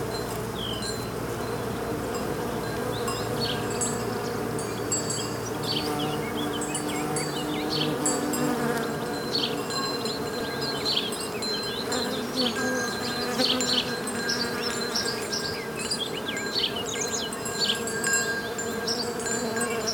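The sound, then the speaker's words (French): A dense, steady drone of many bees buzzing together as they fly from flower to flower, continuous for the whole stretch, with brief higher insect whines flickering in and out and no voices. “C'est quelque chose de partager un instant de vie avec les abeilles.”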